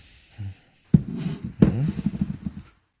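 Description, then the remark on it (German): Wine glugs from a bottle into a glass being poured for another person, opening with two sharp clinks of glass on glass, then a short run of uneven gurgling before it stops. “Hier, ich gieße dir mal was ein, warte.”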